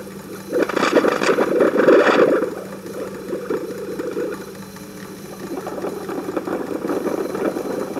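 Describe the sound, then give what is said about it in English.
Steady mechanical whirring from stainless wire running through the machine head and over its pulleys, overlaid with rapid, repetitive knocking and rattling. A louder grinding surge comes early on, then eases back to a continuous clattering hum. “You can actually hear the knocking noises.”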